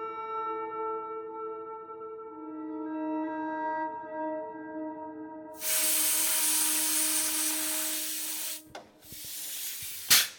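A steady tonal hum gives way to a loud, sustained burst of compressed air hissing for about three seconds, then a brief pause and a second, shorter hiss, as compressed air is used to check an air-conditioning connection for leaks.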